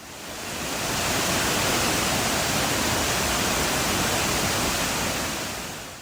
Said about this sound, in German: Und der ist landschaftlich auch wirklich beeindruckend mit Wasserfällen wie den Florence Falls, den Wangi Falls. Ich habe da mal ein kleines Soundbeispiel.